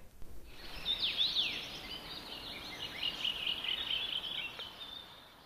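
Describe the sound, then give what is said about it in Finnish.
Birds sing in a protected forest while the sun shines, a dense stream of high chirps, trills and whistles running continuously for several seconds at moderate loudness, with no voices. “Juuri nyt seisomme täällä metsässä, aurinko paistaa ja linnut laulaa, aika idyllistä.”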